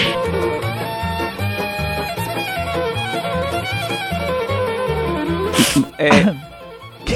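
Over steady rhythmic music, an old man lets out two harsh, rasping coughs in quick succession near the end, loud and abrupt against the melody.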